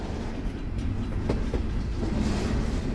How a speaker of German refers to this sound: Wohin genau der Güterzug fahren soll, in den Janosch Gostoni zusammen mit vielen anderen verfrachtet wird, weiß heute niemand mehr so genau.